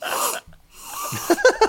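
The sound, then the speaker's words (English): A quick, sharp sniff of a minty drink, followed by softer breathy rustling and a few faint clinking or squeaky sounds. “yes, take a little sniff of your drink.”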